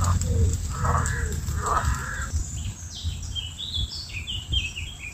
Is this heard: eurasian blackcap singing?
yes